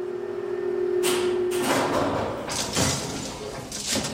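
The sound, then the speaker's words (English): The concertina doors of one of the oldest lifts in London are dragged shut with a loud metallic rattle and clatter, several sharp clanks in a row. A steady low hum fades out as the doors start moving. “Yeah, you could lose a finger in those concertina doors.”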